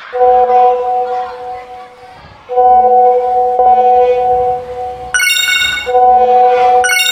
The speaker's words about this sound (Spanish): Mi celular empezó a sonar y vibrar. Me parecía raro.